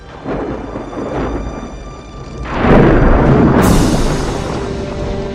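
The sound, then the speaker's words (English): A hurricane storm roars loudly with a deep, rumbling thunderclap that swells midway and lingers, backed by steady rushing wind and rain noise throughout. “Hurricane a-coming! Stand fast! Secure the rigging!”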